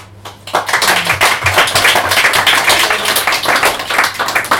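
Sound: audience clapping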